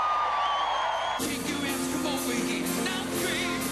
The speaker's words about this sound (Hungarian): A legidősebbektől a legkisebbekig több tízezren várták a Buckingham palota előtt a szuperkoncertet, amellyel trónra lépésének 60. évfordulóját ünnepelték. Vastapssal köszöntötték a koncertre érkező uralkodót.